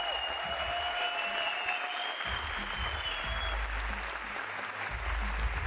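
Steady, dense applause fills the whole clip, a continuous wash of many hands clapping at a fairly loud level with a low rumbling undertone and no clear voices.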